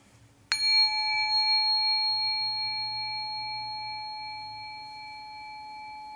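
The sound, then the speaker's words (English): A single bell is struck once at the Los Angeles Public Library, producing a bright, clear ring with several sustained tones that slowly fade over several seconds over a low hum. “So I will ring the bell.”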